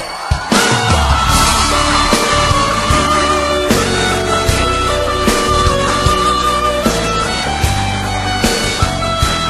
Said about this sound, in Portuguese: todo mundo com as mãos juntas. Cadê o grito dos apaixonados aí?